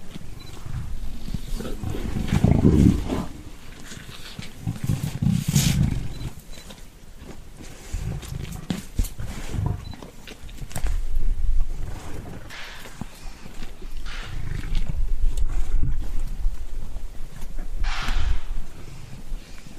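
Two male lions feed on a male impala a few meters away, with wet crunching of bones and tearing flesh, low growls and rumbling bursts rising and falling over about twenty seconds, no voices.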